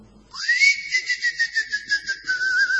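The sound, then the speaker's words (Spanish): A person whistles to lure a cricket out, one long, sustained high note that rises at the start and then holds steady with a slight wavering pulse, clear, with no talking. “No, pero así se va a meter para adentro, porque soy yo el que silba.”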